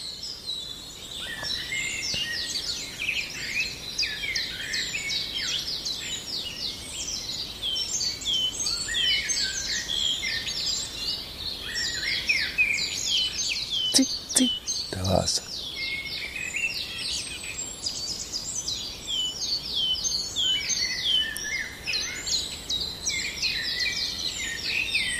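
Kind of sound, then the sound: bird, common chiffchaff song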